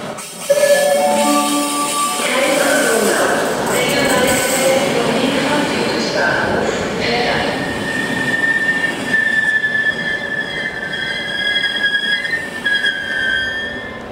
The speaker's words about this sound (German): Jetzt bin ich hier am Bahnhof.